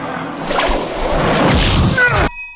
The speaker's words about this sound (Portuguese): Morte do Gandalf Fellowship of the Ring. Quando ele está, leva com o chicote do Balrog.